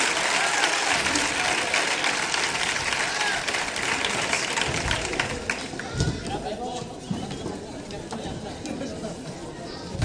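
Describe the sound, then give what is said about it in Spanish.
A large audience claps steadily in a dense wash of applause, loud at first and easing slightly in the second half, with some crowd voices mixed in. “Este aplauso se lo merecen los que están aquí, ¿verdad?”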